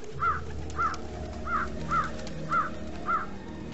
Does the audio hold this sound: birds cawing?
yes